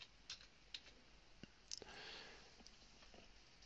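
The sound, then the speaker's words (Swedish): Soft, irregular clicks of typing on a computer keyboard, entering a person's surname and first name into a search in a Swedish population database program: a handful of separate keystrokes spread unevenly across a few seconds, quiet, with no one speaking. “Och då skriver jag in hans efternamn. Och hans förnamn.”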